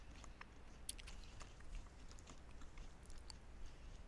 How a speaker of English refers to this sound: Also, your chewing sounds are very faint. So I'm led to believe that this is something soft. Yeah, it's pretty soft. Perhaps gooey? Part of it is, yeah.